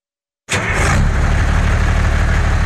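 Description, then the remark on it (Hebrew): An old diesel vehicle engine starts up abruptly and settles into a loud, steady idle with a rough, low chugging rhythm, with no voices. “דיזל ישן מקצר חיים.”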